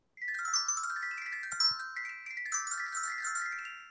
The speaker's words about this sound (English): that's actually the tune that plays when you hit Orlok's doorbell.